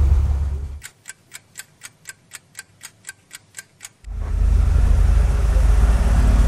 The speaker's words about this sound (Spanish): La que está escuchando Radio Insurgente, pues estamos en el camino y hay muchos carros y no podemos pasar pues, entonces aquí estamos atascados de bastantes móviles.